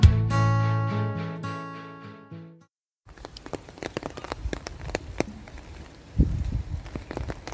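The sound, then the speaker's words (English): A few sustained melodic tones fade out, then after a short pause steady rain patters on a big umbrella in Heavitree Park, with dense crackling drops and occasional heavier splats. “For the next stop on our walk, we find ourselves in Heavitree Park and the heavens have opened. The rain is coming down, so you join me under this big umbrella.”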